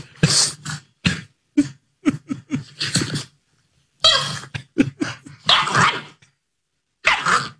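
A puppy makes a run of short, excited noises — yips, grunts and little barks — in uneven bursts with brief pauses, fairly loud, with no talking.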